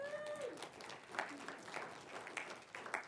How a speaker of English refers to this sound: You can clap for that.